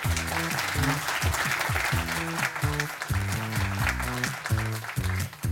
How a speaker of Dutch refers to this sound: Geef hem een warm applaus